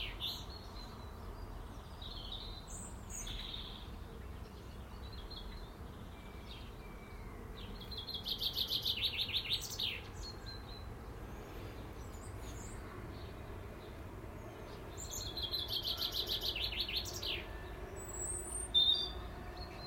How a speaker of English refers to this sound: I missed my bird song for a few days. Well, not that many, but I'll miss them.